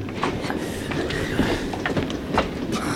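Steady rumble and rattle of a moving train carriage, with repeated clattering knocks from the wheels on the rails, continuous throughout.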